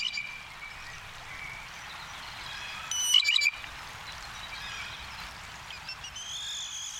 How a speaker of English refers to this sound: Here's something from the Jay Top 40, the pump handle. Notice how much it sounds like one of those old-fashioned water pumps. Up and down, and needs to be oiled.